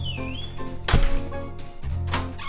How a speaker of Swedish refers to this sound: Hon klampar otvunget rakt in i min lägenhet utan att knacka. Så vi måste fejka både knackningen och ingången igen så att jag får det på band.